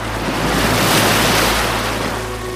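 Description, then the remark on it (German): Sea waves rush steadily onto a shore in Iceland around sunrise, a broad, loud wash of surf with a constant roar and some wind buffeting the microphone, no voices present. “hört das Meer rauschen und viele Seevögel.”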